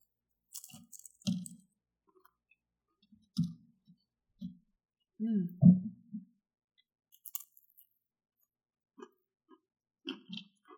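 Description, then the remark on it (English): Someone chews crackers topped with slices of pepper jack cheese, with intermittent crisp crunches and soft wet mouth sounds spread over several seconds and quiet pauses between bites. No one speaks. “So I've placed some slices of a nice pepper jack on some crackers for you. So give those a try with some sips of our wine today.”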